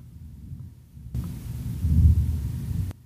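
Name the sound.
rumble of thunder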